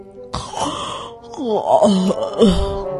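A long, drawn-out voiced yawn by a pig character in a story, fairly loud, with a groaning pitch that slides up and down over about three seconds before trailing off.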